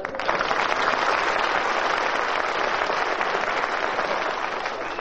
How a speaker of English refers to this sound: No applause, please.